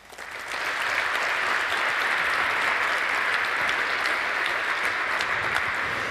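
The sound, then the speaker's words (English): Sustained applause from a large audience welcoming the CTO of Purism to give a talk on making a truly free mobile phone, a dense, steady wash of clapping that swells in quickly within the first half second and holds at full strength throughout, with no voices standing out. “Please give her a warm round of applause.”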